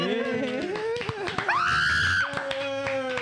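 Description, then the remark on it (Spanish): A loud, high-pitched scream rises sharply and holds for under a second. Excited voices talk and shout before and after it, with some clapping-like thumps. “¿Estás tú con ese grito?”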